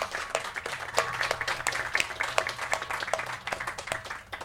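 Audience applause: a dense, steady patter of many hands clapping for several seconds at moderate loudness, with a low hum underneath and no one speaking.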